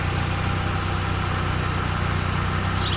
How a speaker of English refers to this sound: A bunch of people are ordering food from this sort of speaker kind of fast food thing. They're driving their cars.